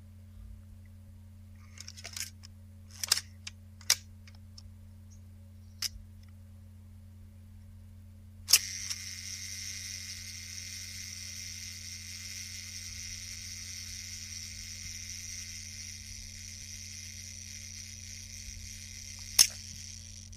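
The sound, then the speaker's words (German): A few sharp mechanical clicks and winding sounds, then a steady whirring buzz of an old mechanical camera's self-timer running for about ten seconds before a crisp shutter snap. Clear, no talking. “Also, das am Schluss hat es jetzt zumindest mal verraten, dass es sich um eine alte mechanische Kamera handelt.”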